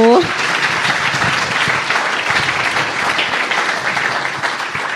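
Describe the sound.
Sustained crowd applause at a live show in Cologne, a dense, steady wash of many hands clapping at an even loudness for several seconds, with a brief voiced tone at the very start.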